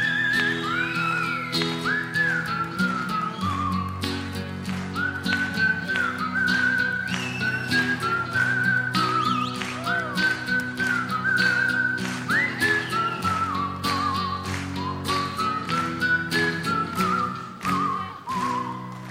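A melodic whistled tune carries over a steady musical backing with bass and rhythmic accompaniment, the whistling clear and prominent throughout the song.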